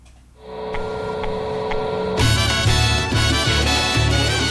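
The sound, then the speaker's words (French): The telephone at the radio station Syllabe rings: a steady electronic tone first, then a loud, harsh, buzzing ring that pulses in quick regular bursts. No voices are heard. “Ah, le téléphone.”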